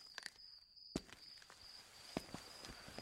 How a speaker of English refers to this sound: When I fell asleep, I expected to eventually be startled awake again, and I was. But not by a train. This time it was approaching footsteps.